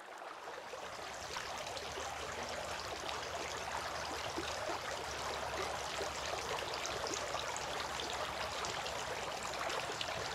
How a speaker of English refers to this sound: poured water on his hands and washed them three times.